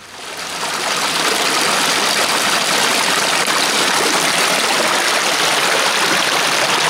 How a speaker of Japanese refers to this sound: 栃尾地域西中野又にありますトドの森名水公園の春の雪解け水の音です。